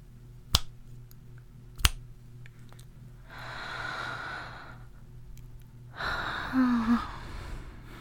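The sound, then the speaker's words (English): Two crisp finger snaps about a second apart, each sharp and isolated, followed by long, soft breathy exhales and a faint sigh with a brief murmur near the end. “If I'm already hypnotized, when you snap your fingers twice, I will be twice as hypnotized, twice as relaxed, twice as happy.”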